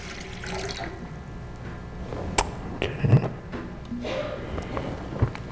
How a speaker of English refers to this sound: As I pour the water into the baptismal font.